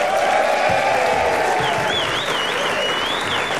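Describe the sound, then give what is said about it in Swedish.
A crowd claps steadily throughout, a dense wash of applause that stays loud and even, with a shrill whistle weaving through it partway. “Och en liten applåd för Anna Mannheimer där borta också.”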